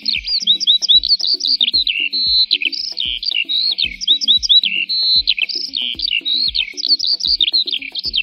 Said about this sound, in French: En retour, l'oiseau gazouille dans l'oreille de la girafe.